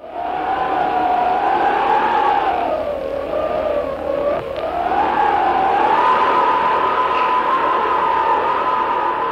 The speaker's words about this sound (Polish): Co to były za dźwięki? To szumiał wiatr.